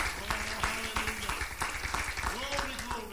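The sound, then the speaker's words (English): An audience claps their hands in a steady, full burst of applause while voices call out and talk over the clapping. “Could you clap your hands unto the Lord and bless His holy name?”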